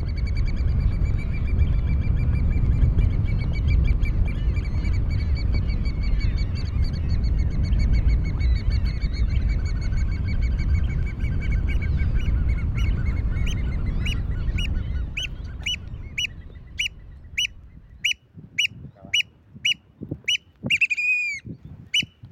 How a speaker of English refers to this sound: This has been WSHU's Bird Song Break featuring the American Oyster Catcher.